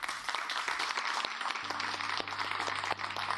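An audience at a public meeting on offshore wind applauds the panel after a debate, a dense wash of many overlapping hand claps with sharper individual claps popping out, under a faint low hum.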